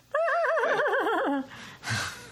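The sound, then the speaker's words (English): A horse whinnies loudly, a single quavering, wavering cry that drops in pitch at the end, followed by a short breathy snort. “And then we hear a horse go howl.”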